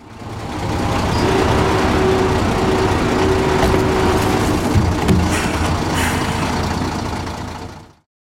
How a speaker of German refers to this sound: Übrig bleibt der Holzstamm. Die Stämme werden mit großen LKWs zum Sägewerk gebracht.